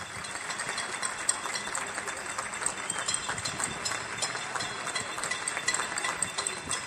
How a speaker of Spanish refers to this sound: En Santa María de la Cabeza, el micrófono de Flor Carazo recoge estos aplausos.